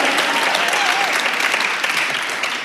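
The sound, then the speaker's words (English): A live audience applauds loudly at the Karshner Lounge outside the Kate Buchanan Room in Humboldt County, California, during KHUM's Upstage Live program: a dense, steady wash of clapping with a few whoops and cheers rising through it, sustained for the full few seconds without letting up. “We've got an audience here. Let's prove it. They're loud.”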